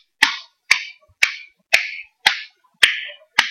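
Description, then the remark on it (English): A slow, polite golf clap: seven crisp, evenly spaced hand claps about half a second apart, each a sharp snap that fades quickly, with no voices. “Here's your golf clap.”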